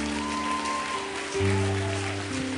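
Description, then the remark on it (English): A crowd claps steadily and warmly to welcome a new youth pastor to speak, the dense patter continuing throughout while sustained organ-like chords hum underneath and shift midway. “So without any further ado, ladies and gentlemen, give a great big Madison welcome”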